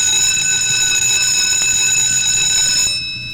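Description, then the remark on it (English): A school bell signalling the change to the next class rings in one loud, unbroken, shrill tone for about three seconds, then cuts off abruptly. No one speaks. “As the bell rings, the Saxons gulp down their cookies and complain about going to their next class.”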